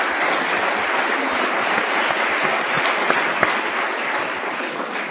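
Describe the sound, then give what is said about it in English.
A crowd claps steadily in a dense, sustained wash of applause for three people being thanked at an event, many overlapping hand claps, fairly loud and even throughout, with no voices standing out. “And so, if you would, I'd ask you to just join me in a thank you, a little round of applause for the three of them.”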